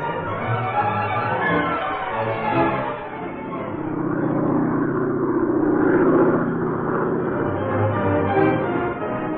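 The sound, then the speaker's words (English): A hired car driving from Havana to the small seaside town of Cardenas, its engine a steady, fairly loud drone with a low hum that dips briefly and then swells with a slight rising strain before settling. No voices are heard. “Axford arrived in Havana, then hired an automobile, and drove to the small seaside town of Cardenas.”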